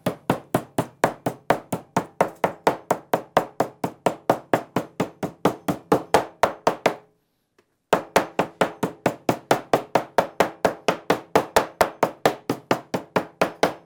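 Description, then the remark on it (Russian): Rapid, steady thuds of a meat mallet pounding a fresh piece of pork for classic pork chops, fairly loud, about three blows a second, with one brief pause midway before the pounding resumes. No one speaks. “Берем свинину, берем кусочек вот такой хороший, свеженький, и молоточком его слегка...”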